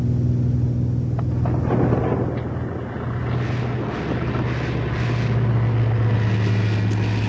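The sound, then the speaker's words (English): Constant propeller-engine drone fills a small plane's cabin while a thunderstorm's roaring, rumbling wash swells around it, with a few sharp crackles early on. Loud throughout, with no voices. “If by chance we should not pass through this incredible maelstrom”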